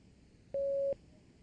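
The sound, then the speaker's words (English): A single steady electronic beep cueing the start of a German number exercise, a clean mid-pitched tone lasting under half a second, sounds loudly over faint background hiss, then cuts off abruptly. “Start when you hear the beep.”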